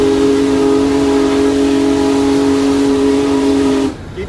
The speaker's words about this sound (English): You know, this steam locomotive captures your imagination. It's an animated machine. It makes its power in a way that you can see. And you can also feel the locomotive.